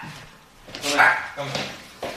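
A dog in an apartment on Amager barks and whimpers in a few short, strained bursts, with a high whining tone rising between the yelps.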